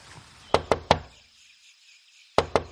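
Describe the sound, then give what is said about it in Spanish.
Three sharp knocks rap on the wooden door of Mary Malon's cabin, then a short pause before another set of three knocks, clear with no voices. “Voy para allá, llamo a la puerta, recojo a Chris y nos vamos de vuelta a casa.”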